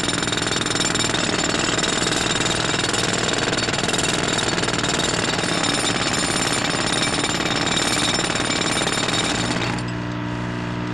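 Loud, relentless mechanical pounding like a jackhammer tearing into the ground as people dig under a ginkgo tree for a buried time capsule, a dense rattling roar that runs without pause for nearly ten seconds before cutting to a quieter steady hum. No one speaks.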